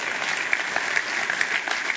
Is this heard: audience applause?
yes